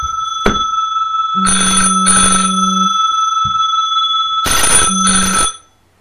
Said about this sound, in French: Bon, je m'excuse pour cette interruption par le téléphone.